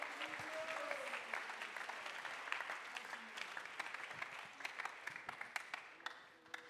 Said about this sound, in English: Somebody clap your hands all over this house alguien aplaude sus manos en este lugar.